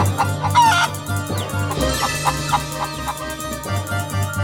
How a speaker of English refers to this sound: Help! Help! Clucked the hen. My poor little chick! He's stuck in the mud!